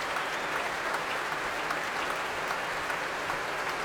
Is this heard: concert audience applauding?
yes